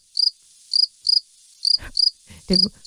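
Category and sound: insect, crickets chirping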